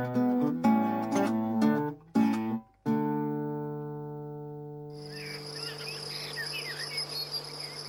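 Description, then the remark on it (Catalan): Short, scratchy musical notes give way to a long held tone, then a steady, shrill cricket chirping rises and continues in the background, moderately loud. “L'orquestra és un grill que amb delit rasqueja i un vol de mosquits tocant la trompeta.”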